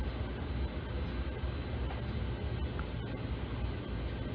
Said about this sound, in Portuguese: A gente está num trem, nos trilhos e tem a impressão de fato, às vezes a gente fica caminhando por os trilhos como se pudesse chegar um trem.